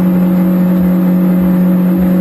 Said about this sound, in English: And then we notice this, we stop, but you can hear the engine is still at full rev. Yeah, you can hear the RPMs are way up, right?